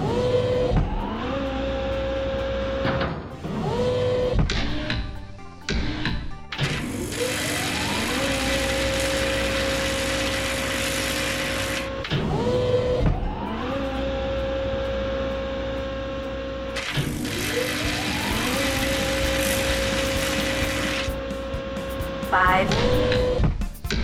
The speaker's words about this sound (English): At station 5, we weld steps. Do you want to help me weld steps? We've already welded 4 steps. We still need the step number 5.